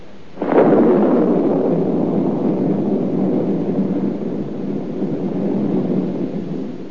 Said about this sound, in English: No. That's just the old storm having a last blow. It's all over. It's spring now.